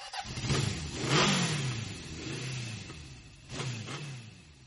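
A motorcycle engine cranks in several grinding bursts in cold weather, turning over repeatedly without catching. It is loud, with no voices.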